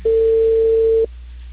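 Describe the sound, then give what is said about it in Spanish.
A single steady telephone tone after a dropped call sounds loudly and evenly for about a second and then cuts off, leaving faint line hiss. No one speaks. “Hola, sí, se cortó la comunicación.”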